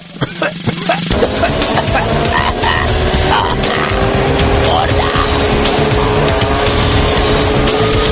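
car driving past

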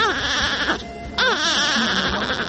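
newborn babies crying

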